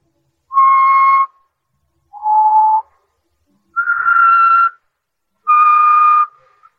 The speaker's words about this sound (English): That song. Did you ever hear it before? Yeah. Bet you did. He's always whistling it.